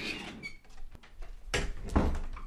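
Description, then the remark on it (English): An old door creaks and squeaks as it moves, a drawn-out strained groan with a couple of louder scraping bursts near the end, with no one talking. “That's an old door.”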